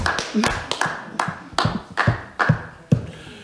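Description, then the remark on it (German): Applause in a council chamber: sharp, steady claps or knocks repeating about twice a second, loud, with faint voices murmuring beneath. “Und eigentlich gebührt ihr der Dank für alle Bürger und auch der Applaus, den wir hiermit nochmal herzlich bringen.”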